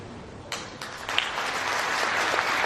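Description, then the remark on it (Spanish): Applause from an audience starts with a few scattered claps, then swells into steady, dense clapping that holds at a moderate level until the end, with no voices heard. “Y se pone a aplaudir. Los aplausos vienen muy bien.”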